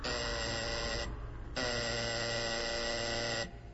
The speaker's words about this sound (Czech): čini mi se da neko zvoni. Da, neko je na vratima.